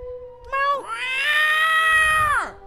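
A single long, drawn-out cat meow, loud and close, rising at the start, holding steady, then sliding down at the end, with a faint low rumble underneath toward the finish.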